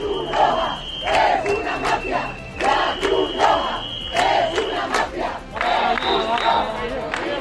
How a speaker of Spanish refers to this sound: La Cruz Roja es una mafia, invasores, expulsión o Pedro Sánchez, hijo de puta. Estos son algunos de los cánticos que se están escuchando en estas protestas